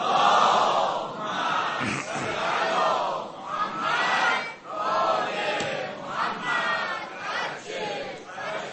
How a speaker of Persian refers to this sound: یه دونه از اون صلوات های عصر عاشورا بفرستی.